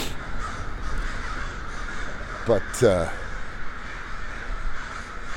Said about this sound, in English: Ah, here we go. Now I'm feeling more at home. We're approaching Burnside and there are definitely roosting crows here. Okay, whew. The order of the world is restored.